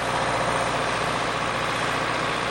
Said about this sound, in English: It starts in the soybean plots, where an agronomist was using a four-row cultivator pulled by a small John Deere tractor.